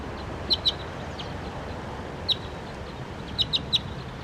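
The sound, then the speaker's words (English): A bird, numbered 301, calls loudly with six short, sharp, high-pitched chirps, a quick pair, a lone note, then a rapid trio, ringing out over a steady rushing background noise; recorded on filter 3. “Now I'm pointing at 301 because he's calling really loud.”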